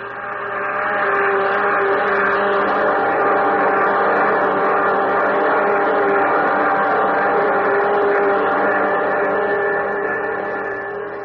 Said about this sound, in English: Those jet dynamos you see before you exist. Jet dynamos driven by the harness power of 1,000 suns. Listen, Earthman. Listen to them.